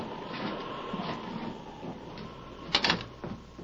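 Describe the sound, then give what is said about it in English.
An unlocked door is opened during a storm against a steady background of rushing noise: a short clattering burst of the latch and swinging door, then a softer knock as it settles. “Wait. The door's unlocked. Come on.”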